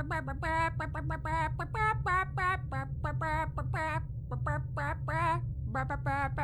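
Chickens cluck and squawk in a quick rhythmic run of bursts, rising and falling in pitch as if picking out a rock song tune, close and loud over a steady low hum.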